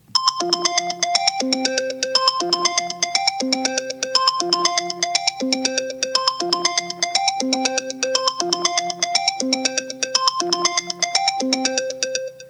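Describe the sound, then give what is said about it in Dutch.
A bright electronic phone ringtone plays a short, bouncy melody that loops over and over at a steady pace, clear, with no voices. “Die heb ik heel lang als ringtone gebruikt.”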